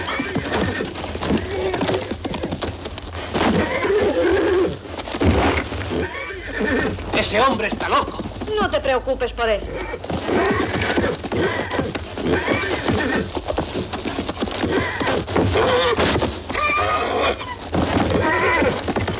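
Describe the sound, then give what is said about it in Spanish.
A horse whinnies and snorts repeatedly, with hooves stamping and clopping throughout, while people talk over the commotion as a person grabs its mane and tries to put a halter on it. “Gira agarrado las crines del caballo. Vuelve a caer al suelo. ¡Cuidado! ¡Vigila las patas”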